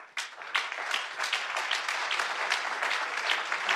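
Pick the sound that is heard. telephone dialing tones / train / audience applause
audience applause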